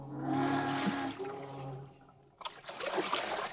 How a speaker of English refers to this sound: The next morning, Best and Hallop push their canoe into the river and start paddling upstream toward home.